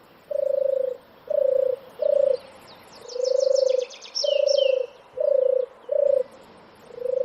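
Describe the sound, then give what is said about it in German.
A European turtle dove, a wild bird, purrs in a steady series of soft, rolling low notes, about eight phrases in rhythm, while a small bird chirps briefly higher up in the background. “Und die berühmte Turteltaube, die übrigens nicht in der Stadt lebt und ein Wildvogel ist, die turtelt so.”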